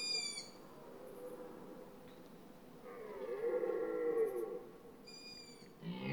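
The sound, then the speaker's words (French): A tawny owl hoots in an autumn forest, in short tonal calls at the start and end, with a longer wavering, moaning call in the middle, all over a steady low rumble of background noise. “Vous entendez la hulotte qui n'est pas dérangée par le cerf.”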